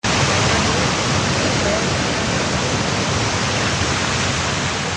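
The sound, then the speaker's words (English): A steady, loud rush of falling water pours without a break, a dense continuous roar from the Falls of Marion, Kentucky, a small waterfall created by a new wastewater treatment plant, with no voices. “That's a waterfall which is created by the new wastewater treatment plant.”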